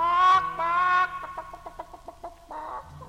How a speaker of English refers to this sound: At the end of the row, a cantina stands. It ain't nothing but a chicken coop.